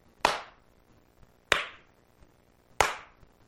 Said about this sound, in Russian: Развернулся на каблуках, зачем-то трижды хлопнув в ладоши.